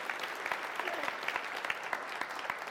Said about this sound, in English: Give this young man a huge round of applause. So proud of you.